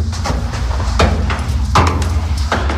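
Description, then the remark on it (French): A heavy oak door hiding an upper floor being worked open, with three or four solid knocks and clunks at uneven intervals over a steady low rumble, fairly loud. “Un étage dissimulé derrière une lourde porte de chêne.”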